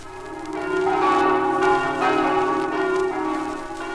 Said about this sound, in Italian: Gli squilli delle campane che si dilatano sino all'opposta sponda del Tagliamento, sino alle luci di Gemona, annunziano il giorno del Signore e del riposo. L'armonioso concento ridesta ed è comprensibile tutte le nostalgie.